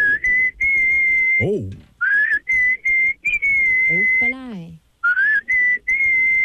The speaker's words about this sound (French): Vas-y, on t'écoute. Coup de sifflet.